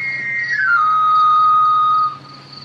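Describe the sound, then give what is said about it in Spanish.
A knife sharpener's whistle in the street at night: one high, shrill tone that glides downward, then holds steady and loud for about two seconds before cutting off. No voices. “Es el afilador.”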